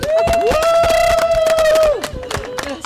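An audience breaks into applause to welcome a woman just introduced, brisk scattered clapping throughout, while a long, steady high-pitched whistle rings out over it for about a second and a half before dropping away.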